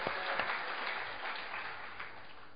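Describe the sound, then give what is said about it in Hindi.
A crowd claps steadily, a dense patter of many hands that stays fairly loud and even throughout, with no voices standing out. “अपने भी शामिल हो गए भाई उन बंदरों के बीच में, बड़ी कृपा हो गई।”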